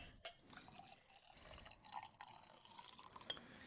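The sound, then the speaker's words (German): Schnapps from a freshly opened screw-top bottle trickles and drips into a glass, a quiet, uneven pouring with small splashes and a faint glassy clink near the start, no voices. “Trotzdem habe ich die gerade geöffnet, ein schöner Brü. Und da gieße ich direkt mal ein.”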